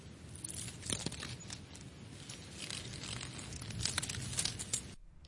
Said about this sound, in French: Laurette fouilla dans la poche de son pantalon à la recherche d'un petit bout de papier.